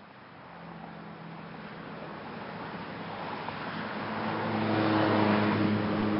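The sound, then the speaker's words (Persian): A bus in a caravan returning home on a warm winter night drives along a road: the engine drones steadily with a low hum while road noise builds, growing louder toward the end, with no one speaking. “در یکی از شبهای گرم زمستان، اتوبوس‌های کاروان انجوی سالم و غانم در حال بازگشت به وطن خیش بودند.”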